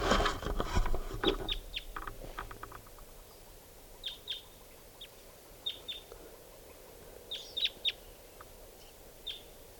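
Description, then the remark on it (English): A wild bird calls loudly in sharp, high-pitched bursts, each a quick cluster of chirps, repeated several times with pauses between, after a brief rustling noise at the start. “Now it's calling louder.”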